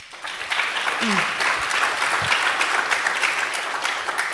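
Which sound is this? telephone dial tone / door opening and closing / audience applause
audience applause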